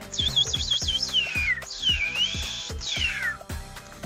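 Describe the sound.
Someone imitates a thrush's song with high, warbling whistled phrases that trill and then slide downward, repeated three times over music with a steady thumping beat.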